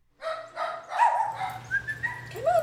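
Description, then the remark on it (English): A dog barks and yips in a run of short bursts mixed with high whines during a dog training class at Learning Possibilities, with a low steady hum behind it. “I've been training dogs for over 10 years.”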